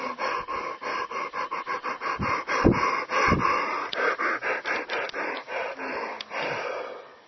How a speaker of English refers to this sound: See, notice that when people yawn, they freeze, right? They do this, and they just freeze. Mouth open, stretching, and there's nothing moving. There's no air flowing. So that's an art to circulate the breath while you are yawning, right?